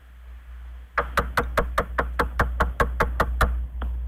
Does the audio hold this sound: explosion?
no